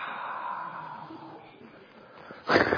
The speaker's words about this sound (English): Breathing in. Whoa. Breathing out. Wow.